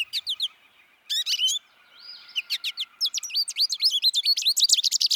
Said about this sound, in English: And here's an American goldfinch saying "potato chip" and repeating notes.